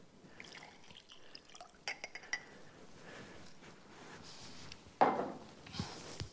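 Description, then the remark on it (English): A few light clinks of a cup or glass, then a short burst of hot water, boiled earlier, being poured over a tea bag, fairly loud, with no talking. “This is a tea bag. This is hot water.”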